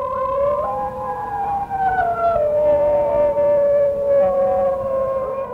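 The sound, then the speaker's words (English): High-pitched singing dogs howl together in long, wavering, overlapping tones that slide slowly downward in pitch, sustained without a break over a constant noisy background. “Whereas the singing dogs are more high-pitched.”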